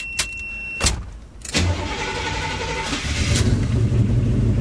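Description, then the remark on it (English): An old car engine, its gas pedal patted to get gas into the carburetor before starting, cranks with a few sharp bursts, then catches and settles into a steady, low rumbling run that swells louder as it is revved toward the end. “Patting the pedal to get gas in the carburetor. Before you start it.”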